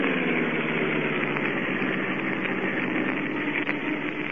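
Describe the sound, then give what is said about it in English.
A car engine hums in a steady, continuous drone as the car drives off the road toward the shore at night by moonlight, with a low rumbling tone that holds an even loudness throughout and no voices. “We'll swing off the road and drive toward the shore.”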